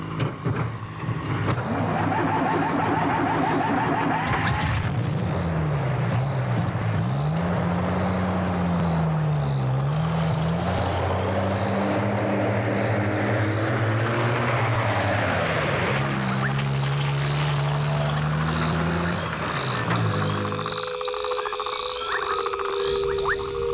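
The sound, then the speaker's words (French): Mr. Arnisson's truck, with workers and chainsaws in the back, labors and revs through several gear changes as it sets off at night toward the Bimbingué village, then pulls away and fades out, leaving a steady chorus of night frogs and insects. “Voici le camion de M. Arnisson qui vient de s'éloigner dans la nuit.”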